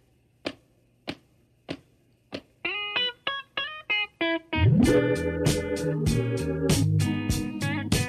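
Four sharp, dry rim shot taps click out a steady beat on their own, opening a song, then continue alongside plucked chords before a full band swells in loudly around them.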